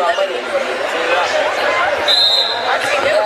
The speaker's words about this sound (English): And there's the sound of the official's whistle. We're back underway here.